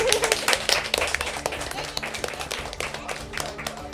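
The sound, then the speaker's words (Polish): A group claps steadily for about four seconds, a dense patter of many overlapping hand claps at a fairly even, moderate loudness with no clear rhythm. “No i przede wszystkim robią to bezinteresownie, więc wielkie dla Was brawa, jestem z Was dumna.”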